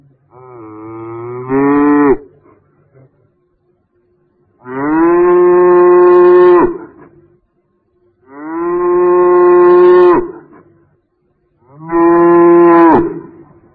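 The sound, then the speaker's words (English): A cow moos four times, each call a long, loud, harmonic bellow lasting about two seconds, separated by short pauses, with no one talking. “I hear a cow.”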